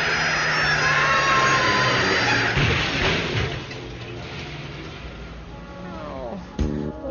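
A garbage truck's engine roars loudly, grinding and droning, then a heavy thump and a sudden jolt with rising, whining tones as it swerves and hits a person crossing the street, crushing him against the pavement.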